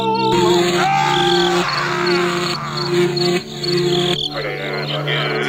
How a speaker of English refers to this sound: Every time that the kid shows up, we get the crickets, okay? Oh, here they come.